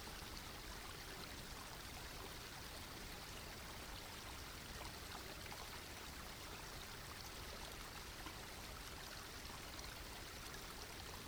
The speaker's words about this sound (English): Now rise up from the water and make your way back to the bank of the stream. Before you leave this holy stream, bend down and place your hand in the water, blessing it with your love and appreciation.